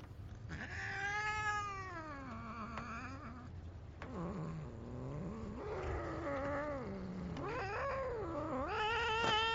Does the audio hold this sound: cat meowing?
yes